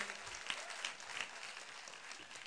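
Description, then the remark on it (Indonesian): A crowd claps steadily for the performers, a dense patter of many hands filling the space at moderate volume, with no voices standing out. “Tepuk tangan dong buat teman-teman yang main ini.”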